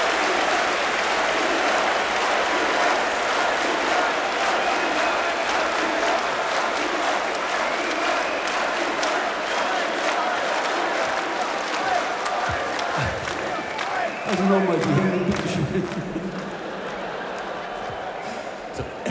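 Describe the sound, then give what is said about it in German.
A large concert crowd claps and cheers continuously, a dense roar of applause with scattered shouts rising out of it near the end before the noise eases slightly. “Erhebet eure Hände. Ich klatsche nun bis vier.”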